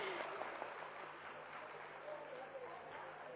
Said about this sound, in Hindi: बहुत बढ़िया, चलिए ये ग्रुप हमारा विनर है, जोरदार तालियां इस ग्रुप के लिए।